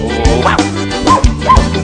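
A small dog gives three or four quick, yappy barks spaced unevenly across a couple of seconds, set against steady background music.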